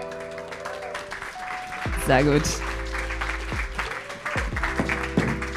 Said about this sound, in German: Wir sind heute in Zürich. Ihr hört vielleicht auch etwas das Publikum. Liebes Publikum, macht euch mal hörbar. Mini kleiner Applaus fürs Publikum.